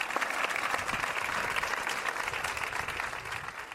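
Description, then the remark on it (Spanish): A large crowd in the town of Parla claps steadily and continuously after a minute's silence at 11 o'clock in memory of a local woman, a dense wash of many hands sustained at even loudness throughout, with no voices standing out. “La ciudad ha guardado un minuto de silencio antes de estallar en aplausos en recuerdo de su vecina.”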